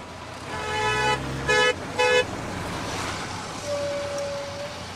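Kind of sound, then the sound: vehicle, car horn beeping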